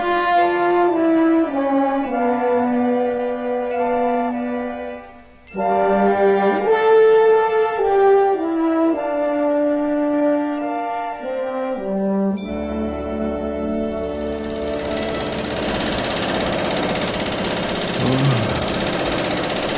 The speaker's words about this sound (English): Oh, honey, I'm sorry about the riveting gun. Oh, I can hear all right. You don't have to yell. I mean to. I didn't know the noise was going to stop. It'll start again. There'll be jack-gunning all day.